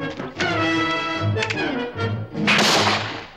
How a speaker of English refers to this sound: The gunshots alert McCoy.